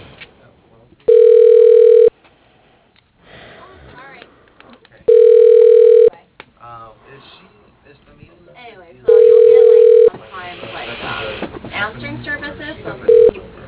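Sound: telephone ringing unanswered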